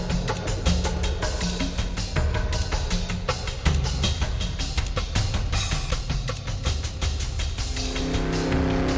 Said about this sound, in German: Dezember, 15.40 Uhr, USA, San Francisco. Wie in Trance schießt Alexandra in den Mustang durch die Stadt, Richtung Hotel Residenz.